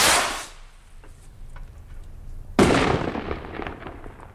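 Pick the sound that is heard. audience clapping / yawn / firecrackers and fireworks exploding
firecrackers and fireworks exploding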